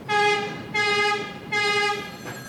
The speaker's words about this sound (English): On the walls hang a few ancient Coney Island photos, which shake, along with the rest of the office, each time another subway train rumbles by on the elevated tracks just outside his window.